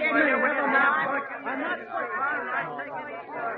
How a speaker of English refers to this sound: Will the spectators kindly file in quietly and take their seats? Leave your cameras at the door, please.